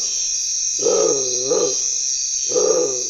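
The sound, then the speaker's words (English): A bare-throated tiger heron calling at nightfall gives deep, low, moaning calls in three bursts, the first two close together and the third after a pause, over a steady high insect drone. “When I was making this recording of the bare-throated tiger heron, it was nightfall. And that's when this bird begins to call.”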